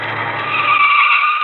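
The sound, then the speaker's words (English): A car pulls up with its tires screeching, a loud, sustained high squeal over a low engine rumble that drops away as the skid holds to the end. “And here comes a car.”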